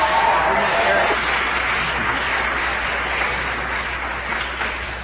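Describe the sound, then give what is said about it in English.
Steady applause from an audience at an awards presentation, a dense crackling wash of many hands clapping that holds for several seconds and gradually thins toward the end. “It would now be appropriate for you to applaud these people.”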